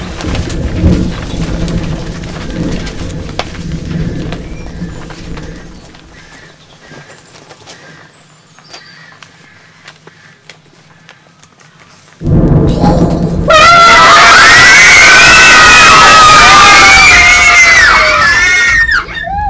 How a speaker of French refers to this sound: C'est ce bruit! Un énorme éclair vient de s'abattre! Je crois qu'il a touché un arbre! Il a dû vraiment passer tout près de vous. Oui, très près!